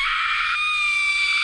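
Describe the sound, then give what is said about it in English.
A female video game raid boss, one that patrols around a ring, lets out a shrill, piercing scream, loud and sustained for about a second and a half, with a steady high-pitched ringing tone and no talking. “That one boss, the one that pats around the ring, her scream.”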